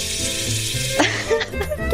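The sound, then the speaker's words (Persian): A splashing water sound effect like a running shower makes a continuous bright hiss for the whole two seconds, with a faint voice briefly audible underneath. “بعد من صدای شرشر آب بیارم.”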